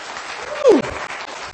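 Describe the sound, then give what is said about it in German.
A crowd applauds steadily for the Wikinger group, a dense wash of clapping filling the whole moment, with a brief louder swell and a whoop-like cry rising out of it midway. “Komm, lass uns denen mal einen Applaus geben, dass die Wikinger das da draußen hören.”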